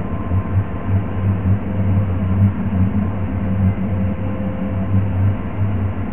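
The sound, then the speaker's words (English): A mysterious deep, steady hum in the southern and western ends of Windsor drones continuously for about six seconds, with a low throbbing rumble that swells and pulses slightly but never stops; its vibrations could rattle windows. Recorded by Michigan Radio in May 2012, digitally enhanced. No voices. “A few years back, people living on the southern and western ends of Windsor were plagued by a mysterious hum with vibrations so intense they could rattle windows.”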